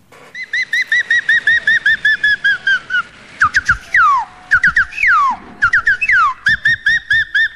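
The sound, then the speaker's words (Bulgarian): A person whistles an improvised imitation of a bird's joyful song, starting with a rapid run of repeated chirpy notes, then sweeping slides and trills, loud with no talking. “Чухме радостната песен на една птичка.”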